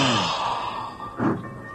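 A scruffy, medium-sized stray terrier yawns as it wakes in a barrel at the base of a water tower, a breathy, drawn-out yawn with a faint whiny squeak, followed by a short puff of breath. No one speaks.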